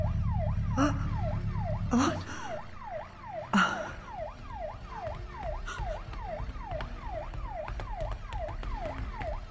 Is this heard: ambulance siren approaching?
yes